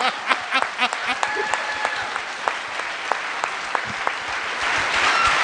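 An audience applauds steadily, a dense crackle of many hands clapping at a fairly even level throughout, with a few sharper individual claps standing out near the start.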